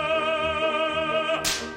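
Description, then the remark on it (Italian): A single sharp whip crack snaps out near the end, cutting through steady sustained musical tones that play throughout. “Il cavallo scalpita, i sonagli squillano, schiocchi la frusta e là, schiocchi la frusta, schiocchi la frusta e là.”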